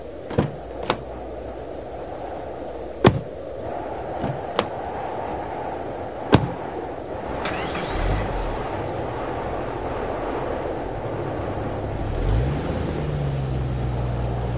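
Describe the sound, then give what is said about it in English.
Several sharp car-door thunks and clicks as people get into separate cars, then an engine starts and a car pulls away toward a coffee shop about a mile down the road from a church, its motor rising in pitch as it accelerates, with steady road noise, in worsening weather. “So they got into their cars and took off to the coffee shop.”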